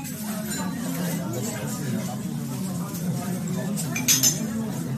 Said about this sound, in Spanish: Nada raro, ¿verdad? Suena a gente comiendo en un restaurante, los cubiertos, un murmullo. Bueno, pues es eso exactamente, un restaurante.